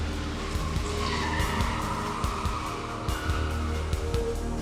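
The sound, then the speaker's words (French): A Corsica car with men fleeing a parking lot after lighting a bomb fuse tears off with tires squealing in sustained, wavering high-pitched screeches over a loud, steady engine roar, with a few low thumps mixed in. No one speaks. “Dès qu'il fut allumé, les hommes s'engouffrèrent dans la Corsica et prirent la fuite.”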